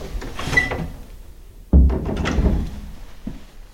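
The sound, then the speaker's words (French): A door is pushed shut with a single solid thunk after a moment of faint shuffling and handling noise; a soft rattle lingers briefly afterward. “Tu fermes la porte, Peter, s'il te plaît, et tu t'assois”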